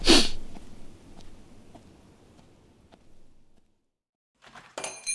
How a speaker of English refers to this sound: Donnie honked his nose in a snot rag, stuffed a hanky in his pocket with the piece, pumped himself up with a few wheezy breaths, and then he clambered from the Pinto and started crossing the street to the quick stop.